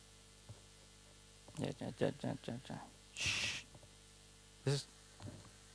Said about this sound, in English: Okay, so that's the clarinet minus the sine waves.